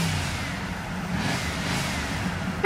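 small car driving

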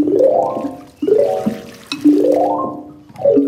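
water sound effect

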